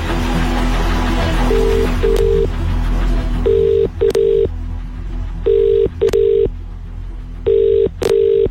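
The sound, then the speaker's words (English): A call being placed to a listener's phone number for a contest: a few quick dialing clicks, then a telephone ringback tone repeating in steady double bursts, four times, clear and fairly loud over a low background hum. “Ring in the first number right now.”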